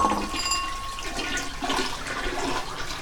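toilet flushing

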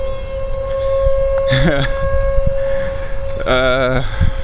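tornado sirens wailing

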